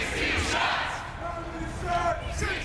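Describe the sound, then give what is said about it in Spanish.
Hundreds of protesters chant "16 shots" (16 disparos) and shout together through the streets of downtown Chicago on Tuesday night over a police shooting video, a loud, continuous wash of many voices with rising cries and rhythmic surges. “Cientos de manifestantes coreando 16 disparos recorrieron las calles del centro de Chicago el martes por la noche”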